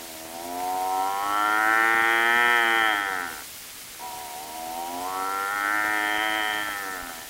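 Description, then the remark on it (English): A man's voice imitates a cow mooing, giving two long, drawn-out moos, each lasting a few seconds with a short pause between. The calls are loud and clear, with no other sounds. “can you do it now, well, …? Go ahead, I'll try. The cows in the meadow, they go.”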